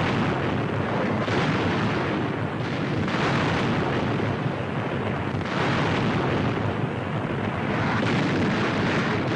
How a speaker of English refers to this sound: The first wave swoops low as the target is sighted. Ploiești's 19 square miles of oil derricks, refineries, storage tanks, and cracking plants. From 500 feet, they pour incendiaries, then bombs. 300 tons of high explosives right on the mark.